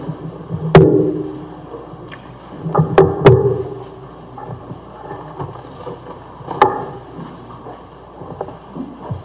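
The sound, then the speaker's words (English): Bible pages rustling and turning as people turn to 1 Kings chapter 11, with several sharp papery snaps and soft thumps scattered over a low, steady shuffle of background noise; no one speaks. “Still hear pages rustling.”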